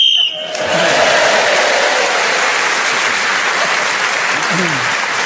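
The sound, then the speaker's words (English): A short, shrill whistle blast ends the round of a panel game while Tim Rice is speaking, gaining him an extra point, then loud, steady applause breaks out and carries on to the end. “So Tim Rice was then speaking as the whistle went, gained that extra point, and he's moved forward.”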